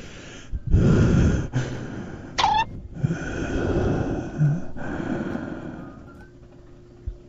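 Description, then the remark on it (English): A person imitates the heavy, raspy breathing of someone on heroin. The breaths start loud and gasping, then grow weaker and more drawn out, slowing until they stop and fade into silence. “I just imagine that their breathing slows down to a crawl because of the heroin coursing through their veins until their breathing stops.”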